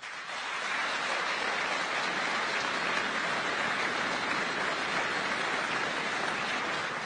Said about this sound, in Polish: Witam parlamentarzystów, samorządowców, a przede wszystkim kandydatów do Parlamentu Europejskiego. Ogromne brawa.